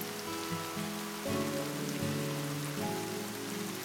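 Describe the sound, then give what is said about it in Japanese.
Gentle, steady rain from grey clouds hisses softly throughout outside a window, gently wetting the ground, the second rain since the rainy season began, blended with a calm bed of sustained musical chords that shift slowly every second or so. No one speaks. “窓の外では灰色の雲から降り注ぐ雨がしとしとと優しく地面を濡らしていた。”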